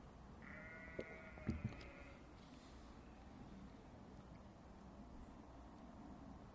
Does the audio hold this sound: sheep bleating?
yes